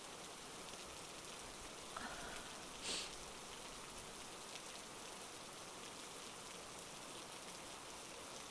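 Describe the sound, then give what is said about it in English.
Steady rain pours down in a dense, even hiss, with a brief tap standing out near the start. No one speaks. “Housing never answers once it starts raining.”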